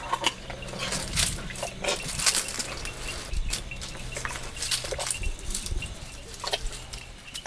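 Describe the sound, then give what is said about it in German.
Rustling and crunching of a fully grown female elephant, almost 3 metres tall, munching flower petals right beside a tent, separated only by the tent wall, with irregular bursts of chewing and occasional breathy snorts over a low steady rumble, no voices present. “Oder ein Elefant mampft Blütenblätter direkt am Zelt. Das klingt dann so.”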